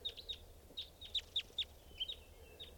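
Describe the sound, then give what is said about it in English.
A bird calls in a rapid, uneven series of about a dozen short, high-pitched chirps, each a quick downward-bending note, over a faint low background hum. No one speaks. “There's a bird right here, staying here.”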